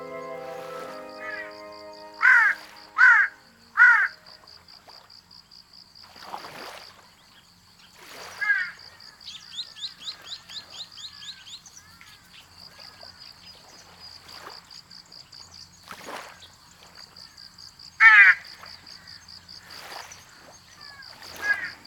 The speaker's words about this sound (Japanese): 南西諸島の南にある石垣島や西表島には本州で多く見られるハシブトガラスはいません。いるのはオサハシブトガラスと名前のついた亜種です。町で見慣れたハシブトガラスを3分の2ほど小さくしたかわいいカラスです。